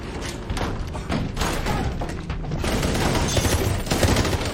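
A rapid volley of gunfire crackles through a dense, noisy scene, with repeated sharp cracks and thuds piling up over a steady loud background for several seconds.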